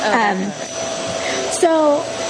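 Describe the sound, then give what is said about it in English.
A vacuum cleaner being used in a hallway drones steadily in the background with a constant whine, while a couple of short voiced sounds rise briefly over it. “Someone's vacuuming in your hallway.”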